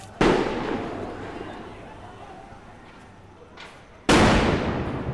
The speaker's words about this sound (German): Die rund 50 kaschmirischen Polizisten, die mit Helm und Schutzschild direkt vor dem UN-Büro stehen, werden nervös. Sie schießen ohne Vorwarnung mit Tränengas und ohrenbetäubenden Blendgranaten in die Menge.